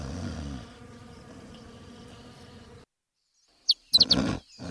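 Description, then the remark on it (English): A steady hum of buzzing bees fills the first few seconds, then stops abruptly; after a short silence, bright bird chirps break in. “Bear hears the buzzing bees.”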